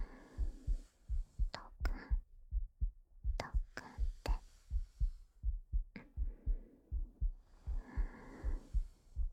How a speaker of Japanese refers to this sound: まだ心臓の音がおとなしくなってくれません。